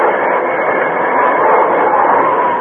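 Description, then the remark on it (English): A moving steam train grinds along the rails as its brakes are slammed on, a loud, steady hissing roar that holds constant throughout, with no voices. “When they were a few hundred yards away, he once more slammed on the brake.”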